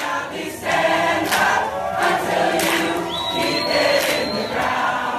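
A large crowd of protesters sings and chants together, loud, filling the whole stretch without a break, disrupting a panel at the COP23 climate negotiations in Bonn, Germany, with a thin whistle-like tone rising briefly over the voices near the end.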